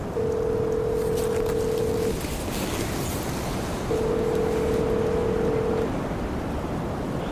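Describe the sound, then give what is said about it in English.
Two long, steady ringing tones of about two seconds each, separated by a pause, sound from a satellite phone being called on a cold night, over a constant roar of wind and water noise. “I'll get the sat phone.”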